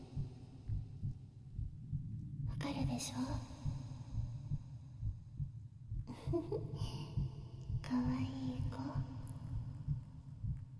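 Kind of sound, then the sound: human body sound, heartbeat thumping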